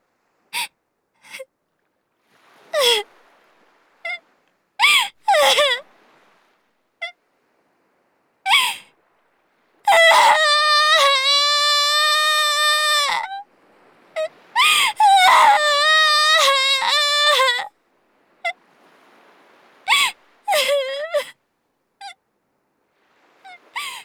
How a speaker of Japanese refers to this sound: 次にカオルに会った時に泣かないように、今のうちにいっぱい泣いておこうと思った。涙が出てくるってきっと孤独じゃないってことだから。